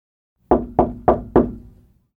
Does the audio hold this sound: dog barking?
no